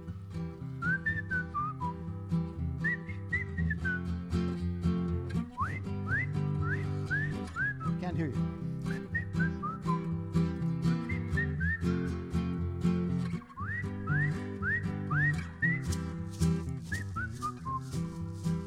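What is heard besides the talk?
people whistling a tune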